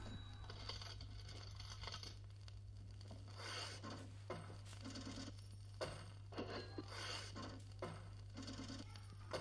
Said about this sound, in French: Dans la réalité, avec un grand R, la répétition des sons des touches d'un clavier annonce une différence esthétique dans et du temps.